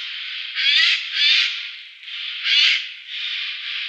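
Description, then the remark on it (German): Harsh, raspy screeching alarm calls from a Eurasian jay calling loudly at an intruder, several loud rasping bursts in quick succession, alone with no talking. “Jeden Eindringling bellten die aufmerksamen Vögel lautstark mit ihren markanten Rufen.”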